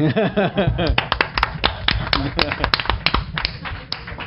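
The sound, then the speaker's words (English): Scattered applause from a small group, sharp uneven claps ringing out for a few seconds, with voices chattering at the start and murmuring underneath. “Or applauding that he got through the door in that outfit.”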